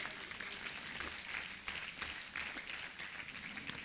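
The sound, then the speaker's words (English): An audience gives a 'clap offering', clapping together in a dense, steady wash of applause that holds for nearly four seconds, with no clear voices rising above the noise. “Give a lot of clap offering, somebody.”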